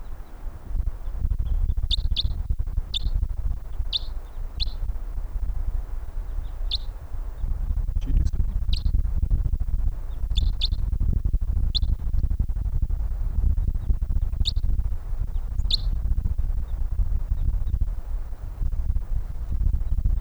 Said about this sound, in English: Those are wild birds in 306.